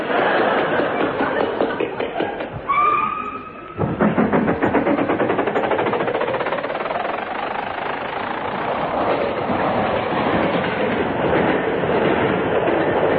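A train rolls steadily along the rails with a rhythmic clickety-clack, loud throughout, with a brief rising whistle-like tone early on before the rattling carriage noise resumes.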